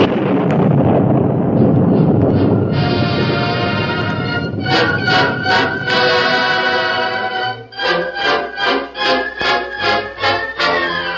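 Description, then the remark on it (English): A deep, rolling rumble of thunder booms for a few seconds, then gives way to dramatic music with a steady, pulsing beat. No one speaks. “Listen, thunder. Yeah, thunder.”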